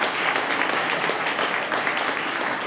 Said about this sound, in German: Ich sage Applaus für Till Daus.